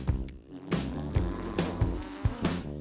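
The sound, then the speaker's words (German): A monster fart sound effect: a loud, low, buzzing rasp lasting about three seconds, sputtering in rhythmic pulses with no talking over it. “Dann klingt ein Monster-Pups wohl so.”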